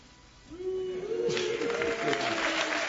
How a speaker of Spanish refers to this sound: Ruido pitos. Agora há palmas.